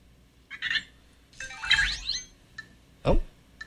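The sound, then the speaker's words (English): A Vector toy robot's 5-second timer alarm goes off: short bursts of bright electronic chirps and warbling, upward-sweeping tones, with a louder swooping blip at the end and no talking. “You can ask it to set a timer. Hey, Vector. Set a timer for 5 seconds.”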